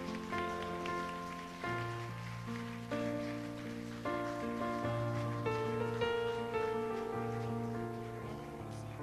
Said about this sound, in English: Let's just give the Lord a clap for what he's done today.